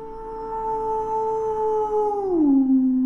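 A single distant howl, long and steady, holding one pitch for about two seconds before sliding down and trailing off at the end, with no one speaking.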